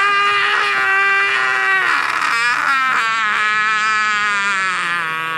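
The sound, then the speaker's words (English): A loud, sustained scream held without a break for several seconds, its strained, harmonic-rich pitch wavering and sliding slightly downward, with no talking. “So what he does is he's just going to keep screaming.”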